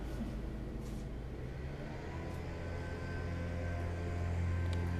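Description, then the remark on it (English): A leaf blower, operated by a woman and moving past, drones steadily outside, a loud continuous motor whine with a deep rumbling base that swells slightly toward the end. No one speaks over it. “We're going to take a 5-second pause here while the leaf blower moves on.”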